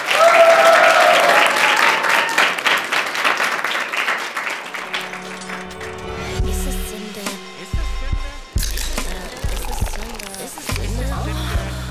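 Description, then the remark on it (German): A large audience at Haus Orbeck, outside Osnabrück, claps loudly in a dense, crackling burst of applause that gradually thins out, giving way to music over the second half. “Und damit sagen wir Dankeschön für heute und verabschieden uns mit einem großen Applaus hier aus dem Haus Orbeck vor den Toren von Osnabrück.”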